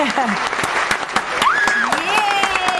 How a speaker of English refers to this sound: Give me some applause, baby! Woo!